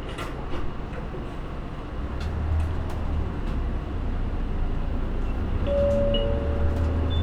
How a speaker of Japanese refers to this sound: 今日もこの電バスをご利用くださいまして、ありがとうございます。このバスは河原町行きです。途中、大和は高松駅、県庁通り、中央公園前を経由します。